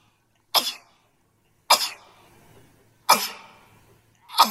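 A run of four sharp, explosive sneezes, evenly spaced about a second and a half apart, each a loud burst that quickly fades, with no talking in between.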